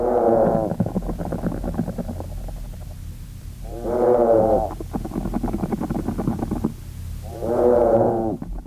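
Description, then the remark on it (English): Field recording of treehoppers, insects living in groups: three low, moaning calls rise and swell at regular intervals, each a harmonic, cow-like moo, separated by quieter stretches of buzzing, vibrating murmur underneath. “This sounds like almost like a synchronized mooing, Professor.”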